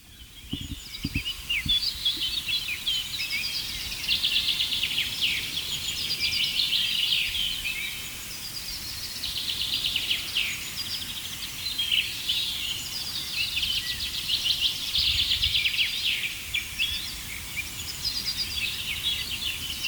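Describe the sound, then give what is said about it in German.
A dense dawn chorus at sunrise of many songbirds singing at once, overlapping high chirps, trills and whistles blending into a continuous wash of birdsong, with no talking. “Das klingt ja so für ungeübte Ohren oft wie so ein richtiger Klangbrei.”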